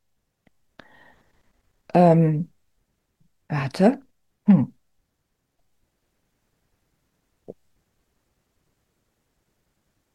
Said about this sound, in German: Siehst du, jetzt fange ich an zu husten.